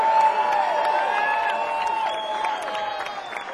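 A standing crowd applauds a band and cheers loudly and steadily, with scattered whoops rising above the dense clapping throughout.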